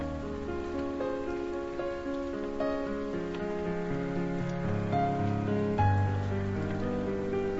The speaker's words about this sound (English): Then it starts to rain, a warm, gentle rain.